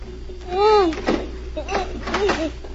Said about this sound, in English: Then she heard someone trying the lock on the door.